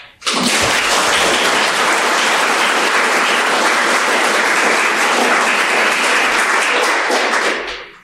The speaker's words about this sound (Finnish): Nyt tämä meille varattu aika alkaa loppua, joten pyytäisin vielä puhujille tässä aplodit.